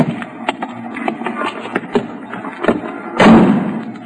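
A car door opens with a few clicks and light knocks, then shuts with a loud, heavy slam near the end, over a steady low engine rumble.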